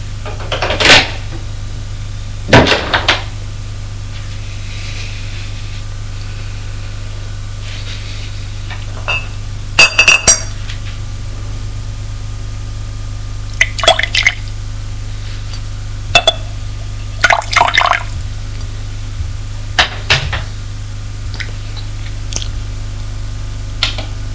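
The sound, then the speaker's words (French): A glass and a bottle of bourbon being handled as a servant brings them to the father and bourbon is poured into the glass, with a handful of short, sharp clinks and knocks spread unevenly over a steady low hum. No one speaks. “C'est un domestique qui vient avec un verre et la bouteille de bourbon. Le vient le porter au père.”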